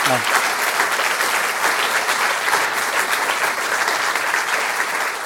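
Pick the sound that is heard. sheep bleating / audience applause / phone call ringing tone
audience applause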